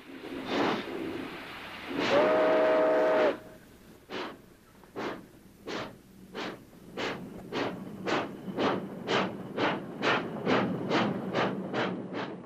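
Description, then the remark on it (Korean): A steam locomotive pulling a freight train, stopped briefly to take on cooling water, sounds a short whistle, then pulls away with loud, rhythmic chuffs of exhaust that start slow and steadily quicken as the train gathers speed, with no voices. “그런데 증기기관을 엔진으로 단 열차가 냉각수를 보충하려고 잠시 정차한 사이 불황자 하나가 재빨리 기차에 올라탄다.”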